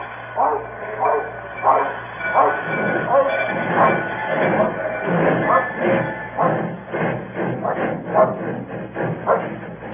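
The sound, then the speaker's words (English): A train between Dalbeath and Newton Stewart rumbles steadily along the rails, its wheels clattering in a loud, rhythmic pattern, with sharp bark-like bursts punctuating the noise throughout. “10 hours later, between Dalbeath and Newton Stewart, I pulled the emergency cord and jumped off the train.”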